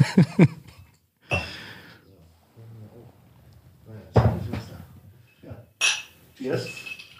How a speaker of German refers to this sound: So, ihr hört die Eiswürfel.